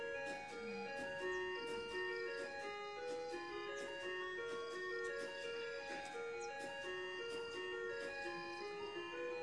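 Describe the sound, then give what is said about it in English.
A clock chimes five o'clock with a bright, bell-like melody, its tones ringing one after another at a steady pace, clear with no voices over it. “See, only sound. Yes. There is the idea, 5 o'clock.”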